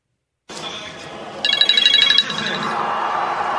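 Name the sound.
telephone ringing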